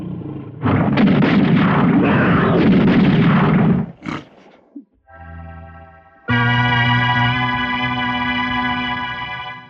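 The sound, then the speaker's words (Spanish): A tiger's loud, rough roar lasts a few seconds as it lunges and is cut off by a single sharp gunshot from an adventurer's firearm fired at close range, followed by low tonal notes and a sustained, droning musical chord. “Y el aventurero aprieta el gatillo de su arma.”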